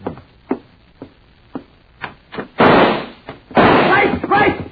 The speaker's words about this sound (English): there came a knocking at our door. Visitors already?